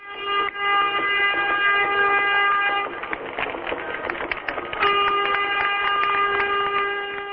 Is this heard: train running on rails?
yes